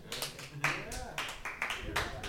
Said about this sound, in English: I will take the golf claps. Most I will take the golf like claps.